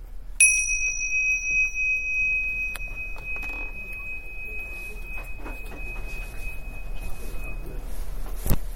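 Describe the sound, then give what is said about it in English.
A single bell is struck once to signal the end of a section of an exercise; its clear, high ringing tone lingers and slowly fades over several seconds against a quiet background, with no talking. “And when you hear the bell, we can stop this section.”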